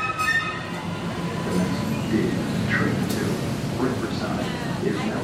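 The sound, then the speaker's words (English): A Green Line light rail train on the T rumbles steadily at a station, with a low mechanical drone and faint high whines, while indistinct voices murmur in the background. “So this is my train. We can see if we can get on it.”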